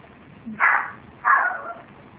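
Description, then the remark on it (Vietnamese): Two sharp, high-pitched yapping barks from a small Chihuahua shut inside a house, spaced about half a second apart, over a low background hum. “có con chó nhỏ phải không? Chihuahua phải không? Con chó phiền thế nhỉ?”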